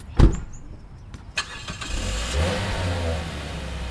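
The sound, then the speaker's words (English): A van engine cranks and turns over after a couple of sharp clunks, then rumbles and revs up steadily as the van pulls away from the parking lot of a commercial fishing store in Portsmouth, loud with no voices. “Get in the van and be quick about it.”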